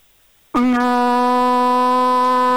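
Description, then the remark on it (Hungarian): A person imitates a ship's horn with one long, loud, steady drone held for about two seconds after a brief silence, strongly harmonic and deep like a foghorn blast. “Te nem utánzol, te maga vagy a hajókürt.”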